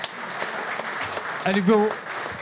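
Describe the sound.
A hall audience claps steadily in a dense, even patter of many hands, with a voice briefly calling out over the applause partway through.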